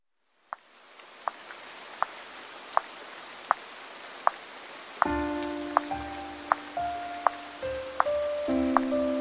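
Steady rain hisses against a surface, with sharp drops tapping at an even pace; partway through, soft melodic music enters and plays over the continuing rain. No one speaks.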